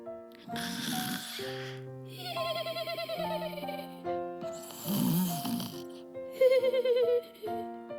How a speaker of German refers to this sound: Leises Schnarchen drang an Merles Ohr.